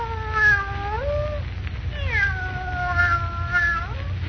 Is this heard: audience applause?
no